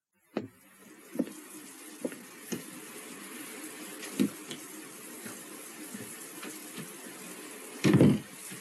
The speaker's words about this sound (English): Having a shower, darling?